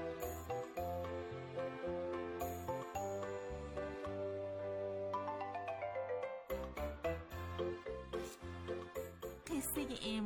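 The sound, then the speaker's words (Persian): A bright, melodic text message jingle plays on for several seconds before a text message is read on the children's program Shaparak. It is a looping electronic tune with steady bass notes and chiming high tones, fairly loud, with no one talking. “شنیدین؟ در این لحظه ما میخواییم یک پیامک بخونم.”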